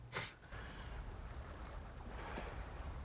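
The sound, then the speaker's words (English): Soft, steady wash of water lapping against a couple of rowing boats moored at a wooden jetty on a wide lake surrounded by tree-covered hills, with a brief splash or knock near the start and a quiet, continuous rustle of ripples throughout; no voices. “There's a couple of rowing boats moored at a nearby wooden jetty.”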